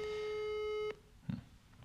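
A steady electronic ringback tone of an outgoing telephone call hums for almost a second and then cuts off, followed by a faint click and soft rustling. Fairly quiet, with no voices.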